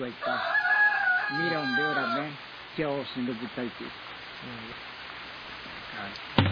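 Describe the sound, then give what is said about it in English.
A rooster crows loudly, one long strained call lasting a couple of seconds, followed by people talking quietly over a faint hiss. “Yeah, it is a little loud, isn't it? He's going to sing for us. Who, the chicken?”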